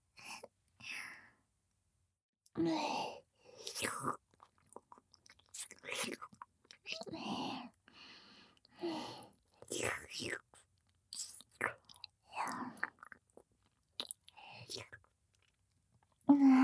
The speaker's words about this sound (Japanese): じさんのお顔もなめなめしてあげるね。キャンディーになった気分味わっちゃおうか。